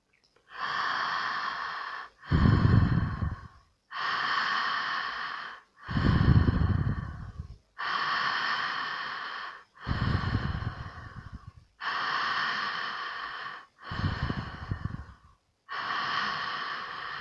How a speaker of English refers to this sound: Keep going, breathing in and out through the mouth. Thinking, feeling, or visualizing that you are breathing in through the into the pelvis and out from the pelvis. Continue with this breathwork for a few minutes.